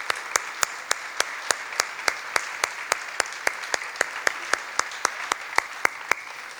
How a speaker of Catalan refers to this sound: Un aplaudiment per elles també.